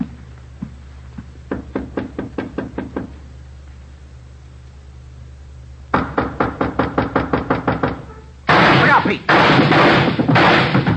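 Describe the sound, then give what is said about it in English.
Two quick volleys of sharp, rapid-fire gunshots crack out, fired through a door, each a string of about ten hard bangs, followed by a loud, sustained burst of noise. “Right through the door. Yeah, he's got two left.”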